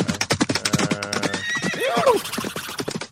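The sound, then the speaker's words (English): A horse whinnies loudly, its neigh rising and falling, while hooves clip-clop in a quick, steady rhythm beneath it throughout. “Well, there you go, horses.”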